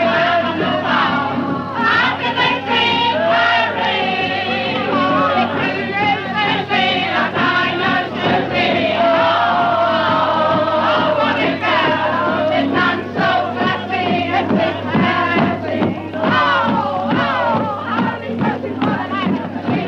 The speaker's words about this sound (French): Au coin de chaque rue, des chœurs spontanément s'organisent, et si les fausses notes sont nombreuses, l'entrain et la joie entraînent la foule houleuse.